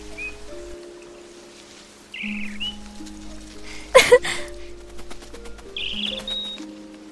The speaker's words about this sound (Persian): نه کاریش نداشته باش، اون فقط یه پرنده است.